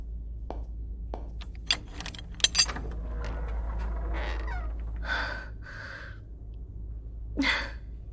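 An old key rattles and clicks in a cell door lock, a series of sharp metallic ticks followed by gritty grinding scrapes and a final louder clunk as the lock turns.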